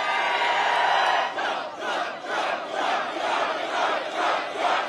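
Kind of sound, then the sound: crowd, crowd cheering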